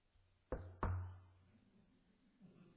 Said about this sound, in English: Knock on wood. I have no idea if it's true, but everything I've read so far says that the origin of that appears to be that, you know, if in case there's a spirit or something inhabiting the area or in the wood itself, that's supposed to scare them